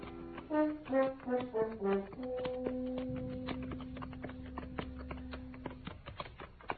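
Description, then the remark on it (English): Horses' hooves clip-clop in a steady, even rhythm as riders ride up the almost deserted main street of El Cater at noon, over sustained background music that opens with a short melodic phrase. “It was noon of the second day when we rode up the almost deserted main street.”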